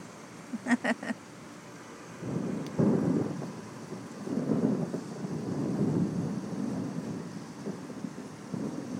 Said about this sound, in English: Come on, Thunder. Give me a good one. What's to worry about? Give me a good one. One big, huge, loud thunder boomer. That would be great right now.